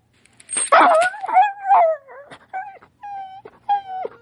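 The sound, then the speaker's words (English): A dog on a chain whimpers and whines, a string of drawn-out, wavering cries that rise and fall in pitch, ending in several shorter plaintive whines with no talking. “Correct the dog. I don't want to strangle my dog.”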